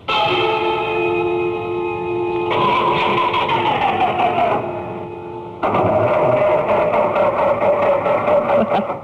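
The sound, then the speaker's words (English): A heavy engine of an economy tour bus on the way to Naples drones loudly, then its pitch sags and whines downward as it strains. It abruptly cuts back in with a rough, rattling roar as the bus breaks down. “Oh, this is the second time we've broken down to Naples.”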